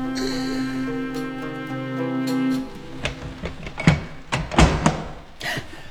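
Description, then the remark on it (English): A long, drawn-out wooden creak of a hidden trap door being opened, followed by several hollow knocks and thuds as it settles. Fairly loud, with no voices. “See this trap door? How well it's hidden. Follow me through, but stay back till bidden.”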